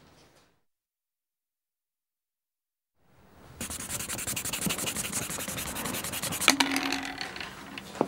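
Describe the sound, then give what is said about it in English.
After a few seconds of silence, a pencil eraser rubs briskly back and forth on paper, a steady scratchy scrubbing that continues to the end with no voices. “Oops. Can I borrow your rubber, please?”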